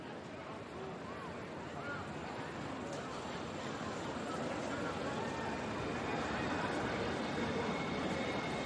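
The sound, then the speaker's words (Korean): A busy train platform, growing more crowded as the train's departure time approaches, hums with steady, dense crowd chatter and rumbling rail noise, people talking indistinctly throughout as the ambience swells slightly louder toward the end. “승강장은 열차 시간이 다가올수록 더욱 붐볐다.”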